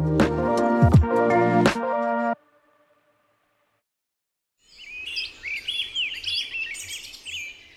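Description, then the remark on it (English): After a short musical sting and a pause, a bird sings a busy stream of bright, rapid chirps and warbles over faint outdoor hiss, lively. “To human ears, bird songs are beautiful background noise.”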